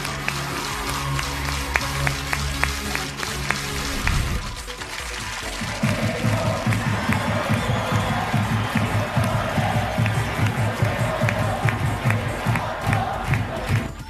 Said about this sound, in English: Depending on the number of people and the number of times the buttons are tapped, the volume and excitement will increase. Viewers can also clap freely along with chants.